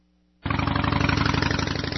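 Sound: loud motorcycle engine revving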